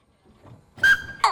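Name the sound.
train whistle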